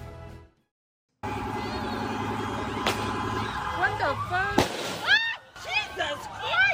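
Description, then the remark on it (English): Outdoor crowd noise with a couple of sharp fireworks bursts cracking out, followed by rising and falling whistling squeals over a busy clamor of voices, as people shoot fireworks towards the Trump building. “People are shooting fireworks towards the Trump building.”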